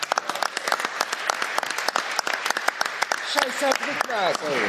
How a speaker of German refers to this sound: Aus Saarbrücken ist auch jemand da, habe ich gehört. Ne? Einen kleinen Applaus für den Mann aus Saarbrücken.